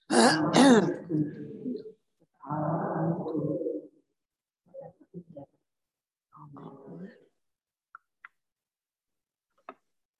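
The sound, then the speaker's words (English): A participant on a Zoom video call who is not muted, during a church service, coughs and clears their throat in a few rough bursts, fairly loud, followed by quieter throaty noises and a few faint clicks in otherwise near-silence. “Sorry, congregation that are in the room, you don't know this, but there's somebody not muted, and I can hear them coughing.”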